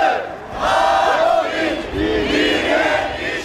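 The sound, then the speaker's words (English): A large crowd of workers shouts and chants together in a sustained, loud roar, many voices rising and falling in overlapping waves, at a May Day protest march in Berlin. “Anger among workers was evident in Berlin's May Day rallies, as CCTV's Guy Henderson reports.”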